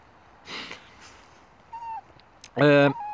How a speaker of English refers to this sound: Meow.